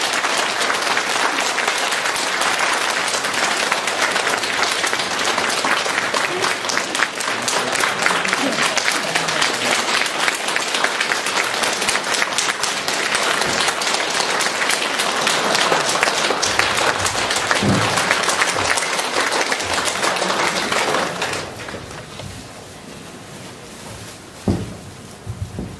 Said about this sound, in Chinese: 现在让我们用最热烈的掌声恭请我们尊敬的卢军宏台长为我们慈悲开示。